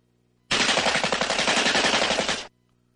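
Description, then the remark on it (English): A loud, rapid burst of machine gun fire sound effect lasting about two seconds, the shots blurring into a steady rattling roar that cuts off abruptly into quiet. “Machine guns?”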